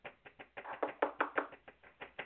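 A quick run of about a dozen knocks on a hard surface, fairly loud, falling in a steady, rapid rhythm with no one talking; players knocking to signal they are in for a bet of 25.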